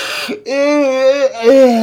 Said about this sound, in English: Sorry, that's yawn there.